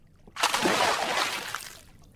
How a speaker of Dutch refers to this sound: Rani duikt in het water.